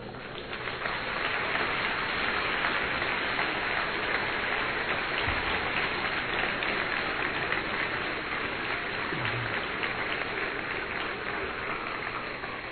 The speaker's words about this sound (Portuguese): Vocês aplaudiram o meu discurso? Então acho que Deus merece mais.